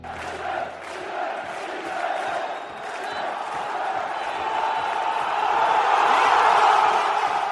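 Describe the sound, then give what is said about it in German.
A large football stadium crowd in Liberec cheers and chants continuously for the home team Slovan Liberec just before the final whistle of the match against Viktoria Pilsen, a dense roar of many voices that swells louder toward the end, with shouts rising out of the mass. “Die Zuschauer in Liberec feuerten ihre Mannschaft gerade noch einmal an, bevor der Schlusspfiff in der Begegnung zwischen Slovan Liberec und Titelverteidiger Viktoria Pilsen ertönte.”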